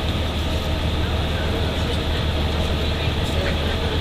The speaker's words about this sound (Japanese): ご乗車ありがとうございます。リゾート白神5号青森行きです。次は追分です。